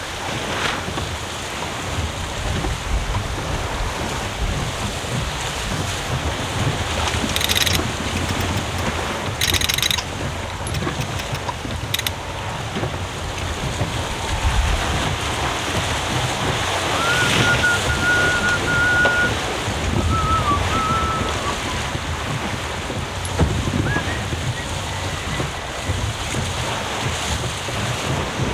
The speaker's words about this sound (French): Et on entend le bateau là qui accélère dans les petites vagues.